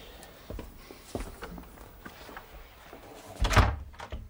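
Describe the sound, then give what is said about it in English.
A library door opens and shuts, with a few soft knocks and shuffles before a firmer thud near the end. No one speaks, and quiet room noise fills the rest. “Over there, through that door, into the library.”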